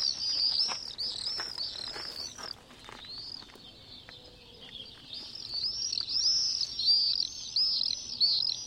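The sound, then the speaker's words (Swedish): Shrill, high screaming calls of common swifts play from a recording on a mobile phone, taken from a French 10-disc collection of all European bird sounds and converted to MP3. The calls repeat in rapid overlapping bursts throughout, with a soft low background rumble and no talking. “att spela upp tonseglare för oss”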